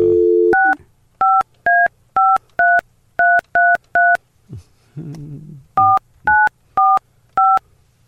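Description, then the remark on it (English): Loud telephone keypad dialing tones: a brief steady tone, then a quick run of seven beeps, a short pause with a low buzz, and four more evenly spaced beeps. No one speaks. “I don't think I have to dial 9 on that line, right?”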